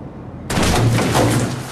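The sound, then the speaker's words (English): After a brief low hush, a single loud sniper rifle shot, fired out of a window, cracks out abruptly, followed by a long, harsh rumbling tail that holds at full volume until the end. “Preparing to open the door, they wait for the sniper to fire.”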